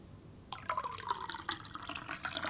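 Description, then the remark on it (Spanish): After a brief quiet moment, water suddenly starts pouring into a glass, one of three glasses being filled with different amounts of water, a steady splashing stream with ringing, bubbly tones as it fills. “Llenando en distintos vasos distintas cantidades de agua.”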